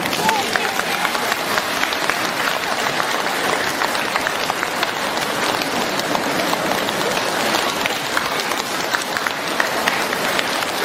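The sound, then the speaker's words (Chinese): A large audience claps in a dense, steady roar of applause at the end of a Q&A session, thanking Master Lu Junhong (卢军宏台长), holding at full strength for about eleven seconds, with no pauses and no clear speech on top. “让我们再次用掌声感谢大慈大悲的卢军宏台长。”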